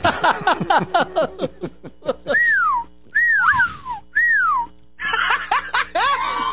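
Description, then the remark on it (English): Loud human mouth whistles ring out in three sharp, falling glides after a burst of laughter, with more laughing and a wavering whistle mixed together at the end. “Well, I can also do the really loud whistle.”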